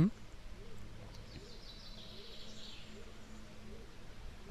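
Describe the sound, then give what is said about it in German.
Faint birds chirping, a thin scatter of high tweets drifting over a steady low background rumble. “Jetzt hört man Vöglein zwitschern, das wird immer mehr.”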